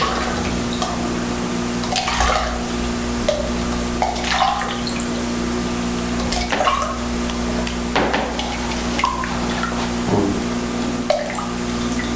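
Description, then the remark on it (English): Water is poured in small splashes and trickles into cotton taken from inside a diaper and sprinkled with a thickening substance, with irregular wet bursts over a steady low background hum; nobody speaks. “Yeah, and so if you pour a little water in there, let me see.”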